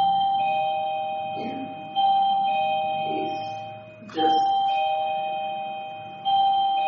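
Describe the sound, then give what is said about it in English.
A bell chime rings out clearly, struck again roughly every two seconds, each stroke humming and slowly fading into the next. No voices, just the resonant tones. “It's almost like I didn't hear the first bell.”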